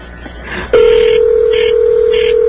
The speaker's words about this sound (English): You know what she did? She just put us on a trunk line that was ringing and ringing.